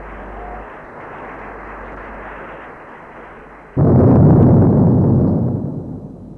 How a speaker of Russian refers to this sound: Над площадью раскатился грохот 6-дюймовки «Авроры».